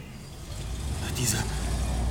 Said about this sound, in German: Diese Verbrecher sind mit ihrem Wagen abgehauen.